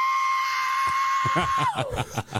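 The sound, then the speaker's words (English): A loud, shrill screech like a screaming goat holds one steady pitch for over a second, then slides downward and breaks into short, ragged bursts. “The screeching sound? Okay. It sounds like one of those screaming goats to me.”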